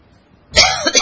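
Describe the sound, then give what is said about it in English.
A single harsh cough from a speaker with a tickle in his throat bursts out after a quiet moment, followed by a rough throat-clearing rasp, loud, with no talking; at a church service in Casa Grande, Arizona. “I got a little tickle in my throat right at the wrong time.”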